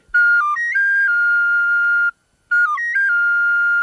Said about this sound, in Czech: Také tahle dětská píšťalka byla v té škatulce. Musím probovat, nezapomenu-li sem pískat.